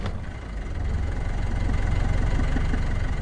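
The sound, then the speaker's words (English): An old 1973 Mercedes-Benz 220D diesel car, started with a pull knob after about 20 seconds of heating the glow plugs, catches and settles into a steady, rattling idle, its rapid low knocking pulse loud throughout, with no one speaking. “It takes about 20 seconds to get the glow plugs hot, and then it fires right up.”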